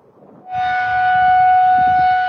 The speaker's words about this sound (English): Overnight, alarms sounding as a dangerous tornado outbreak swept through the plains and Midwest.